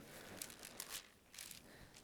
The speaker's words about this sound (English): When you're there, say I'm there. I said, heard people say there, but I see our pages turn, right?